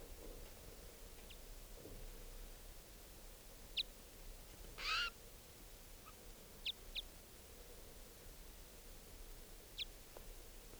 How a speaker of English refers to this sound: The other wild bird is still here calling.